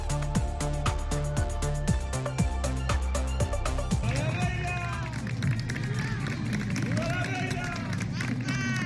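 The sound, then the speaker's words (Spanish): A crowd of gathered local residents applauds as Queen Letizia arrives near the Cine Moncayo in Tudela for a tribute to filmmaker Alejandro Amenábar. The clapping falls into a regular rhythm at first, then turns looser as many voices rise in cheers and shouts over it. “Y la reina Letizia, que llegaba este martes pasadas las 11:40, con estos aplausos a las inmediaciones del cine Moncayo de Tudela, donde ha presidido el homenaje al cineasta Alejandro Amenábar.”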